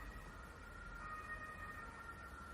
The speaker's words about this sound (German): Mensch, hörst du die Sirenen? Das ist ja Wahnsinn. Das hört ja gar nicht auf.